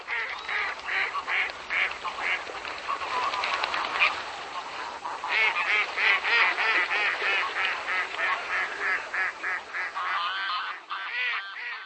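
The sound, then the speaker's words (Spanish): A dense flock of wild geese and ducks calls continuously, overlapping honks and quacks rising and falling in a steady chorus, loud with no speech. “En los inviernos cálidos como el del presente año, permanece en el territorio checo un mayor número de garzas, patos silvestres, gansos bravos y gaviotas.”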